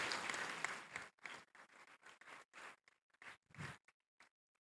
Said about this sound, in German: Den Applaus haben wir uns verdient. Der Antrag wurde einstimmig mit 76 Ja-Stimmen, keiner Gegenstimme und keiner Enthaltung angenommen.